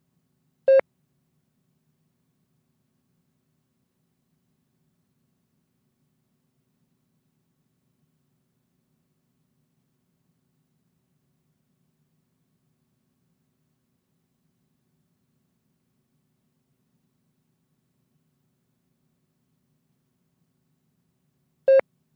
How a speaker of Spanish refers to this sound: Oye, está entrando otra llamada. A lo mejor son mis padres.